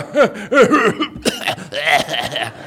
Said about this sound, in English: You know you're getting older when your laugh turns into a cough. You know that kind of thing where it's like, "Well, that was a good joke."